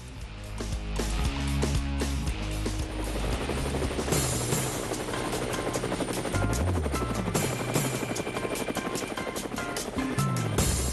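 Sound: helicopter rotor blades whirring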